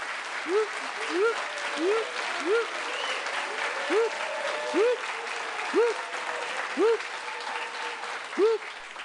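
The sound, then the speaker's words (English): Steady, dense applause from an applause meter under a plastic chicken fills the whole stretch, with about a dozen short rising-and-falling tonal chirps popping out over it at irregular intervals. “we have an applause meter underneath the chicken.”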